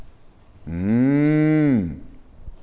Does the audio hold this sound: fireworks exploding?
no